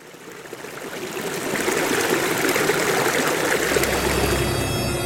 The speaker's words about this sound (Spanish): Te invitamos a fluir por las aguas y los recuerdos de las comunidades que convivimos a orillas del río Tuta, conociendo historias de vida, esas historias que nos construyen como comunidades y que nos recuerdan que nuestra vida depende del río.